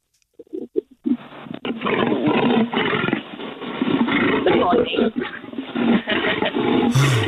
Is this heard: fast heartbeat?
no